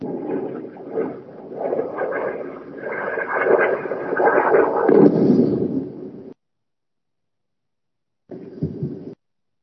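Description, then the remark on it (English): Explosions of rockets fired from multiple locations in the Gaza Strip and of Iron Dome interceptors rumble and roll together for several seconds, then fall silent before one more short, muffled blast. No one speaks. “So they tried to do it again, tried to overwhelm the Iron Dome missile defense system, firing from multiple locations.”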